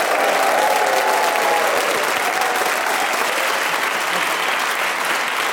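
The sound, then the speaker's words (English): The studio audience of the show Just a Minute bursts into sustained applause and cheering for the four players Paul Merton, Desiree Birch, Delisa Chaponda and Lucy Porter: a dense, steady roar of clapping with a few whoops rising above it, loud throughout. “Please whoop and cheer and go wild for all four of them.”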